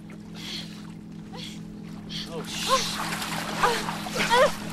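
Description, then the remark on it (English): A motorboat approaches and speeds by on the water, its steady engine droning low while water splashes and sloshes in bursts, the sound growing busier toward the end, with faint indistinct voices mixed in. “A boat is approaching.”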